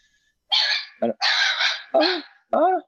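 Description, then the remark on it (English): A dog lets out a quick series of five loud, strained whining yelps, each call short and rising or falling in pitch, with brief gaps between them and no talking. “The dog doesn't like that. The dog does not like that.”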